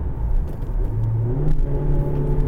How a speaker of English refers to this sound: Excuse me, I'm getting all the gears mixed up in the car. This car wouldn't pull the skin off a rice custard, as my father would say.